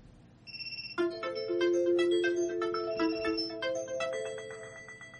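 A bright electronic 'Chimes' alert sound plays as a preview after its button is pressed with the space key, a cascade of clear bell-like tones ringing out in quick succession and overlapping into a sustained, shimmering melody, loud with no talking.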